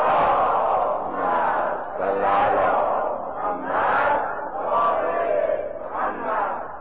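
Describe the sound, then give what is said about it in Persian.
A large crowd recites salawat, the blessing on the Prophet, aloud together, many voices rising and falling in a steady, rhythmic unison that fills the whole clip without pause. “صلوات بلند خواند کنید.”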